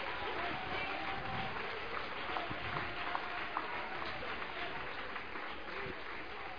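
An audience claps together for Jehovah God in a dense, steady wash of applause that holds at an even loudness for several seconds, with no voices standing out above it.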